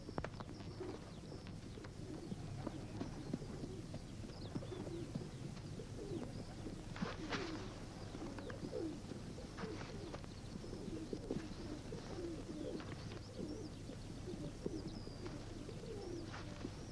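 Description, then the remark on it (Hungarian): Several pigeons coo softly and repeatedly, their low throaty calls overlapping across a steady outdoor background, with occasional brief rustles and flutters. “Adj a galamboknak enni.”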